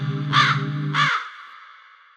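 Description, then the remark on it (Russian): A jackdaw caws twice, two short harsh calls about half a second apart over a low steady hum, and the second call trails off into a fading ring. “На проводе Галка, механическая птица-рассказчица.”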